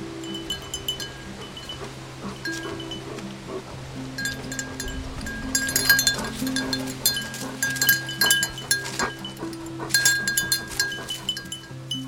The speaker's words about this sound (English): Here's audio from her footage of the dogs. You can hear their bells.